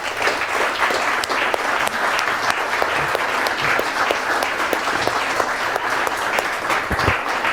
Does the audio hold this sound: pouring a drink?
no